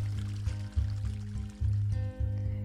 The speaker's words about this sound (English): There are many springs like this around the city that feed into the canal itself. They run down from clear mountain springs. It is the same water from which the summer wine is made, as pure as it is possible to find.